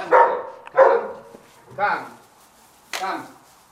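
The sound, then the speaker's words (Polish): Dogs guarding a sheep flock bark in four loud, harsh bursts spaced unevenly over a few seconds, with quiet pauses between barks, stirred up by a visitor with a microphone. “co spowodowało spore zamieszanie wśród pilnujących stada psów.”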